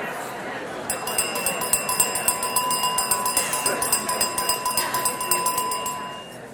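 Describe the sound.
A handbell rings rapidly and steadily for several seconds, its bright, high, sustained tones pulsing in an even rhythm over a background murmur of many people talking.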